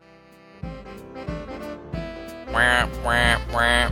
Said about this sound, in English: Spoiler Duck says, don't listen if you haven't seen the movie. Quack, quack.